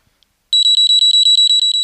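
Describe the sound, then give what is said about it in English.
A shrill electronic overheat alarm from a device's built-in battery monitor, set off when it detects a temperature over 54 degrees Celsius, beeps rapidly and loudly: a steady train of about a dozen high-pitched pulses starting after a brief silence, with no voices. “There's an inbuilt alarm in the device, so once it detects a temperature over 54 degrees Celsius, it sounds the alarm and alerts you to the problem.”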